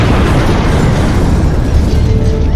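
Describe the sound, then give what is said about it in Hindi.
A loud explosion with a heavy, sustained rumble that fills the whole stretch, dense, as NSG commandos blast down a wall inside Chabad House at 6 pm, with no voices. “शाम 6 बजे एनएसजी ने धमाके से खबाद हाउस के अंदर की एक दीवार गिरा दी।”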